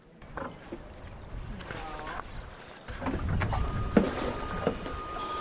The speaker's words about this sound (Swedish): Här är en dagseglare eller en 6 meters centerbordsbåt med elmotor då. Nu är det här framtidens lösning när de är elmotor i båtar.